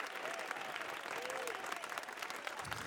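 Steady applause from musicians on stage, a dense wash of many hands clapping at once, continuous throughout with a faint murmur of voices mixed underneath.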